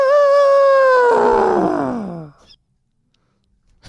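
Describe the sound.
A person's voice imitates an elephant with a loud, sustained trumpeting call that slides downward in pitch for about two seconds, then fades into near silence.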